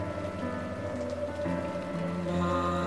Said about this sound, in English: Some years later, not far from the Foggy Jew, I duck into a doorway to escape a sudden downpour.